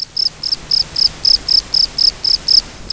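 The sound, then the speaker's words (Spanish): A cricket chirps in a steady, evenly spaced series of about ten short, bright pulses, made by rubbing small scrapers on one wing against the front edge of the other wing, both held slightly raised, clear against a quiet background with no voices. “En el caso de los grillos, frotan pequeños raspadores de un ala con el extremo anterior de la otra ala, manteniendo ambas ligeramente elevadas.”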